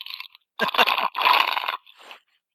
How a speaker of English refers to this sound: Nice slurping into the microphone there. I just finished my second drink, so I am completely prepared for the rest of the evening.